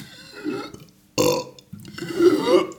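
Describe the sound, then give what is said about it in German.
A deliberately forced burp, fairly loud, with a short gulp of air drawn in before it and a longer, rough croaking belch that rises and fades. No talking. “Also das ist schon so, das ist kein besonders eindrucksvoller Rülpser, aber es ist ein merkbarer.”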